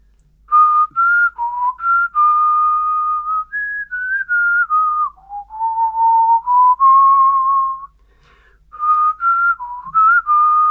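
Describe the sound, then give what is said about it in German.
A person whistles a TV series theme tune alone, a clear, fairly loud melody of wavering sustained notes with short breaks, one long drawn-out phrase in the middle, then a brief repeat of the opening. “Das war aber auch echt schlecht gepfiffen.”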